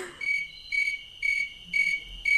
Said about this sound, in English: Nathaniel Hawthorne said that tree crickets are the sound of silence made audible